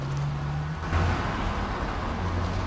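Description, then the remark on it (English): A car engine roars steadily as the vehicle drives off at speed, its low hum dropping in pitch as it shifts gear, with constant road noise and no voices. “Wade drives away at speed.”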